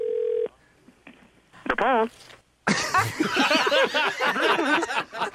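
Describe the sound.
A phone call starts with a steady tone and a few faint dialing clicks, then a short warbling ring, before loud laughter and overlapping voices take over.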